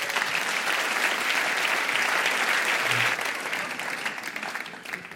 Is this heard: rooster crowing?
no